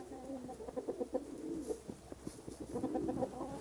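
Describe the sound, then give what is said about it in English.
Several pigeons coo softly in overlapping, throaty murmurs, a steady low burble of calls with no talking. “If you listen carefully, you can hear all the pigeons.”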